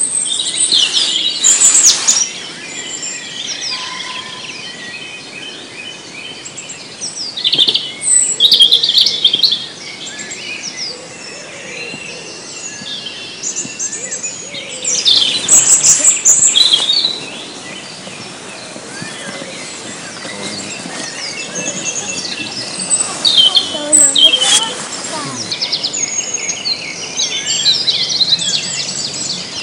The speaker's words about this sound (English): And what have we heard this morning? I think the main bird we heard was song thrush, but with blackbird, wren, chaffinch, greenfinch, robin, black cat, chiffchaff.